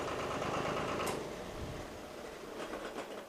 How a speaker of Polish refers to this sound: To mamy takie dźwiękowe tło. Sobie traktorek jedzie w tej chwili. Przejedzie, zaraz.